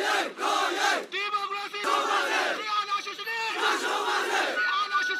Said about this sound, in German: Zu Zehntausenden gingen die Menschen im ganzen Land auf die Straßen. Doa Ye, brüllten die Demonstranten. Es ist unsere Pflicht.